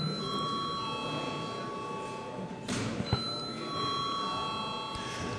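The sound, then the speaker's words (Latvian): A parliament chamber bell rings steadily and continuously to call a vote on a bill in its second reading, its sustained metallic tone at moderate volume, with a brief soft knock partway through. “Lūdzu zvanu.”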